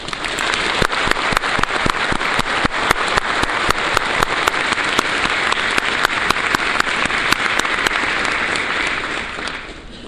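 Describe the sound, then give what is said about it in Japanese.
A crowd breaks into steady, dense applause welcoming Hiroshima Prefecture Governor Hidehiko Yuzaki to the stage for a keynote lecture, many hands clapping at once in a continuous loud patter that holds evenly for about ten seconds before easing slightly at the end. “それではご登壇いただきます皆様盛大な拍手でお迎えください。”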